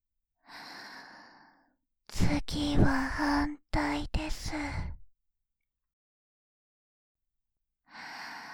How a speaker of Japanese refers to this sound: 吐息を耳穴に吹き込まれると体ビクビクと反応してしまいますよね。